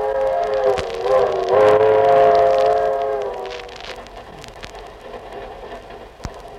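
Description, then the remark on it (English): A train horn blares for a few seconds over a steady mechanical rumble, then fades, leaving the continuous rolling clatter of a passenger train carrying Jack Benny and his gang from New York to Hollywood, California, with occasional sharp clicks. No one speaks. “So now we take you aboard the train where we pick them up one day before their arrival in Hollywood.”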